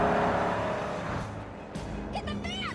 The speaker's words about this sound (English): The taxi drives alongside the motorcycle.